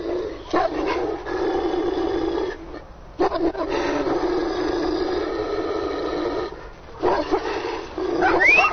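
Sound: dog barking and growling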